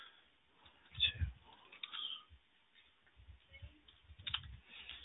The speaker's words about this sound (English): So just give me a second there to finish typing up the notes of the how the staff and the other inmates treated you.